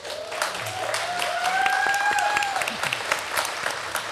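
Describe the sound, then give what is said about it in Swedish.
A crowd applauds steadily as the audience is welcomed to a panel event on a beautifully clear Friday afternoon, with the five Hötorg skyscrapers in view. Many hands clap in a dense, even patter that holds for several seconds, while a thin whistle-like tone slides upward early on. “Och välkommen publiken.”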